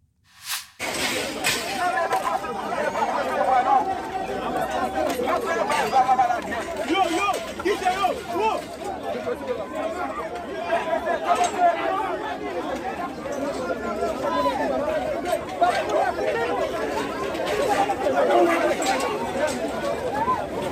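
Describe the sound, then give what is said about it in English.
A large crowd of migrants, apparently from Haiti, surges forward breaking through barriers at a refugee office in Mexico, in a loud, unbroken din of overlapping voices, shouts and hurried movement that holds steady for about twenty seconds after a brief quiet start. “So you see that there, and you can see the crowd for yourself.”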